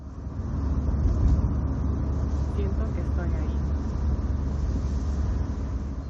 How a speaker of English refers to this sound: As the car speeds up, the building facades blur past the window.